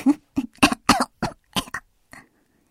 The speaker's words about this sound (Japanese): ああ、喉使うとちょっと咳出る。